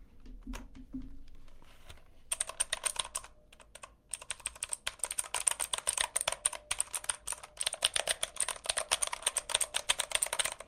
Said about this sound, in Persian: ببین من الان یه کیبورد مکانیکال بلو دارم پیشم و آبیه، من الان تایپ میکنم، شما گوش بکنید که مثلا چه صدایی میده.